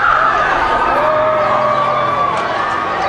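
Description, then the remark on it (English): A large crowd of Michael Jackson's fans cheers loudly and continuously as he waves and walks out of court after being acquitted, with shrill screams and whoops rising above a dense, steady roar of voices for the whole few seconds. “We're on pictures of Michael Jackson waving to the crowd, walking out, and the crescendo grows from his fans.”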